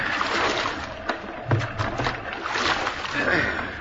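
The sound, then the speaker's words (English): Oars dip and pull through water in uneven strokes as two people row together, with splashes and sloshing against a small boat's hull over a steady watery wash. “I'll spell you. Yeah. We can both do it. Take the right oar”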